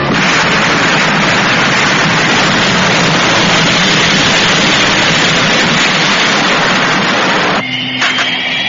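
Rocket engines of Thunderbird 1 roar at takeoff as it lifts into the sky from a hidden launching site at a secret island base: a loud, steady, hissing rush that holds for about seven seconds, then abruptly gives way to a thinner, humming whine.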